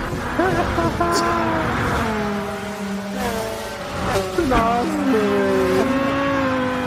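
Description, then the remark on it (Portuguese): Go-karts racing against the Mega Blaster car in the video game Gran Turismo, spinning and raising smoke: several high, buzzing engines rev and whine together, their pitches sliding up and down with gear shifts, over a steady loud roar and brief tire squeals. “Os kart girando, tudo fumaça.”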